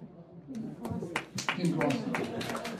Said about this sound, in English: And I think it's weird that you're clapping because just a month ago I filed for my first divorce.